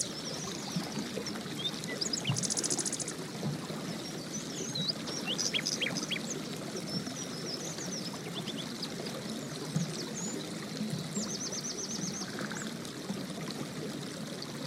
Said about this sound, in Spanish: Bueno, yo escuché varios sonidos que me encantan. Escuché por ahí unos pajaritos, distintos tipos, ¿eh? Porque escuché diferentes sonidos de aves y escuché agua.